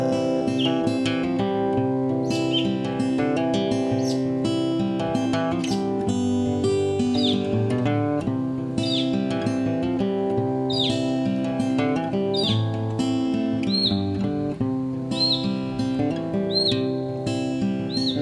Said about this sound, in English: Mockingbird, mockingbird, singing every song he's ever heard. There's a thousand voices in that bird. Have you heard the mockingbird?